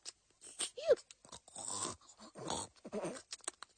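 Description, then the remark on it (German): A baby grunts like a piglet, giving a string of rough, snorting bursts with a few higher squeaky notes, irregular in rhythm and fairly loud, with no talking. “Grunz nicht? Das ist keine schickliche Art, sich auszudrücken.”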